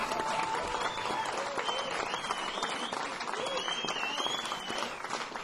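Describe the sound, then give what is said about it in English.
A crowd applauds steadily throughout, dense clapping at a constant level with faint whistles and cheers mixed in. “Big round of applause”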